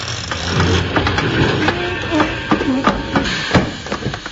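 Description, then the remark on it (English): A train is brought to a stop with its brake, grinding to a halt with heavy low rumbling mixed with clanks and knocks and a brief whining squeal of brakes, fairly loud throughout. “You really stopped it. All right, hurry it up.”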